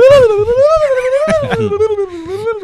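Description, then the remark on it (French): A person's voice imitates a turkey gobble: a loud, sustained, wavering vocal tone with a slow warbling rise and fall in pitch, lasting nearly three seconds without pause. “Belle imitation du dindon.”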